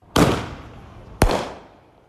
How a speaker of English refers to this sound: Fireworks. Whether a celebration or an annoyance, exploding fireworks are hitting record numbers, way ahead of Independence Day.